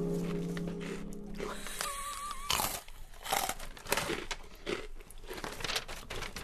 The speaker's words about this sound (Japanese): もぐもぐしてんだよね、まだね。